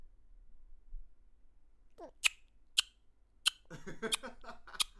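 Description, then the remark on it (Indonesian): A child makes a bird-calling sound with the mouth: about five sharp clicks at irregular intervals, with soft breathy vocal noises between them, after a short quiet pause. “Seperti itu suara memanggil burung ya.”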